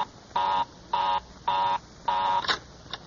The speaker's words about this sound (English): Well, of all the luck, Mary's line is always busy.